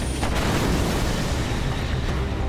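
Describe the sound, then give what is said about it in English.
The Coromandel Express veers into a siding and slams into the back of a standing goods train: a loud, continuous rumbling roar with a heavy low end, broken by a couple of sharper impacts, and no voices. “The Coromandel Express suddenly veers into the siding and smashes into the back of the stationary goods train.”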